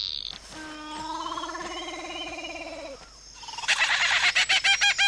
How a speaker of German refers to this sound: Ja, Papageien sind nicht so die allerbesten Sänger unter den Vögeln. Und warum das so ist, warum die so hübsch sind und mehr oder weniger so schrecklich krächzen